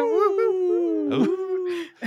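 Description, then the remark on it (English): A person imitates a wolf howl with one long, wavering voiced tone that rises and slides down over about two seconds, fairly loud, with a few breathy bursts near the end. “I feel like I have to wolf, but that's because of the diamond dogs”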